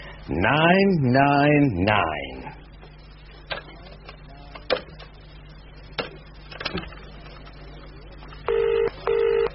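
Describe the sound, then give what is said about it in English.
A warbling, voice-like tone opens, then scattered clicks of a telephone being dialed to the emergency number 999 to call the police, followed by two short bursts of a ringing tone near the end, clear. “All dialed and ringing for you.”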